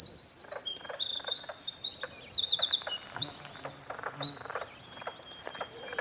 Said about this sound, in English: So you can hear the winter wren, that long, beautiful bird song, and this strange kind of frog sound.